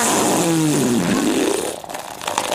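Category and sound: human body sound, fart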